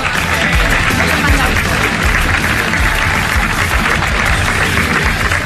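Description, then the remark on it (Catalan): A crowd applauds the mayor of Salou, Pere Granados, and RAC1 director Eulàlia Carbonell as they come up to present the men's trophies at the RAC1 race in Salou: a dense, continuous patter of many hands clapping at an even loudness, with some low murmuring underneath. “A veure si podem un aplaudiment per ells, sisplau.”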